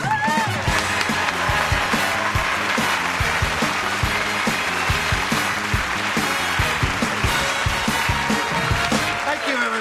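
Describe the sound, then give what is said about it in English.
The Tool Time studio audience cheers and applauds loudly and continuously as Tim the Tool Man Taylor is introduced, dense clapping mixed with whoops and shouts filling the whole stretch without a break. “What a nice crowd you are.”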